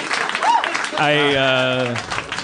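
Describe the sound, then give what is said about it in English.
Steady audience applause for a joke fills the room for a couple of seconds, with a single drawn-out vocal cry rising over the clapping partway through. “I condemned that joke on the way out the door, and you applauded it.”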